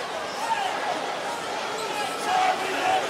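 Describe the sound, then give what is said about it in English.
Artificial crowd noise filled in by ESPN's TV broadcast of a basketball game: a steady wash of many voices chanting "Ref, you suck" and murmuring together, swelling slightly toward the end, with no single voice standing out. “One other thing to mention here is how quick ESPN's TV broadcast filled in fake crowd noise of chants of "Ref, you suck," which is interesting.”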